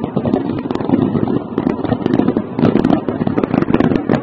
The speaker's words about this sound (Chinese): 现场升起了巨大的蘑菇云，大家可以看一下，好像爆炸还不止一次。先是升起了一个蘑菇云，紧接着现场好像又炸了一两次啊！ 啊，二次爆炸了，二次爆炸